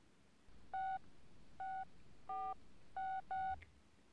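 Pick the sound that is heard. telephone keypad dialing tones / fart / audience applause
telephone keypad dialing tones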